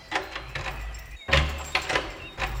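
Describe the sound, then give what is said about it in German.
Several sharp knocks on a door, early in the morning, land in two quick bursts, loud over a low background rumble, with no voices. “Wer klopft denn hier so früh?”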